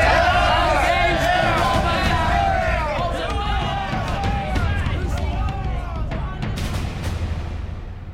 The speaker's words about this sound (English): I could hear their cheers from here, Harry. They were cheering for war. They were cheering their king.